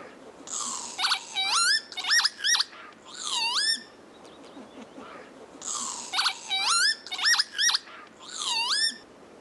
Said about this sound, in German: Das ist der Kiebitz. Und zwar unser Kiebitz.